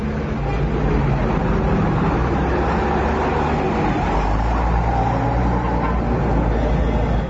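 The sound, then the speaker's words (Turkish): A car rolls to a stop, its engine and road noise a steady low rumble that fills the whole stretch with no voices. “arabanın önüne atıverdi kendini. Bizi de gördü, üzerimize geliyor. Dur. Tamam, duruyorum işte, merak etme.”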